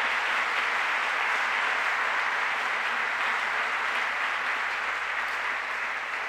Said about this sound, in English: How about let's get together and give the whole show a big round of applause? I think they worked the devil out of themselves, huh? Let's give it to them.